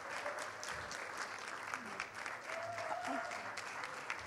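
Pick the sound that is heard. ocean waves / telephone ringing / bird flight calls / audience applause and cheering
audience applause and cheering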